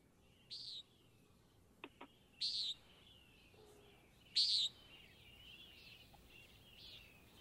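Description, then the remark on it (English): A common nighthawk gives short, nasal, buzzy peent calls: three loud ones spaced a couple of seconds apart, then softer repeats, with a pair of brief clicks and a quiet hiss beneath. “did you have a nighthawk sound?”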